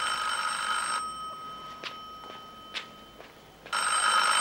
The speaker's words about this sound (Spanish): contesta el teléfono.